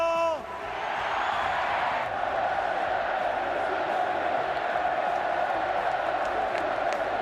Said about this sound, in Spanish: Todos serán dirigidos una temporada más por Diego Pablo Simeone, que fue recibido desde la grada por su grito de guerra. ¡Diego Pablo!